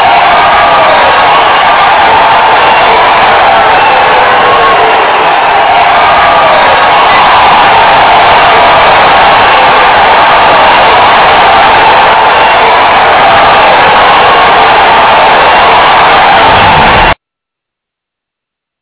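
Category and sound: crowd, audience applause and cheering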